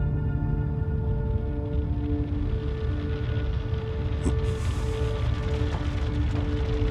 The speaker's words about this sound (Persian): وای. داره تگرگ میاد. امیدوارم ماشینتو غور نکنه.